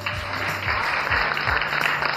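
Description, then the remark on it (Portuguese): A crowd applauds in a steady, dense wash of clapping that stays loud and even for about two seconds, with no voices standing out. “Eu quero aplausos.”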